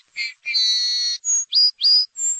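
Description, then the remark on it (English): A song sparrow sings a clear, lively phrase: opening notes, a buzzy trill, then a few bright, rising chirps, alone without any talking. “Like, do you prefer this song sparrow?”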